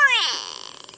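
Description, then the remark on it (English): A single loud, nasal "noo-wee" call of a gray go-away bird rises sharply, then stretches into a harsh, buzzy wail that wavers and fades over about a second, alone. “Favoring open woodlands and thorn savanna, gray go-away birds are known for their loud and nasal "noo-wee" calls, often alerting other birds that there's a photographer nearby.”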